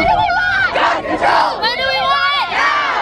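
protest rally crowd shouting

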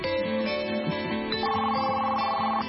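telephone ringing

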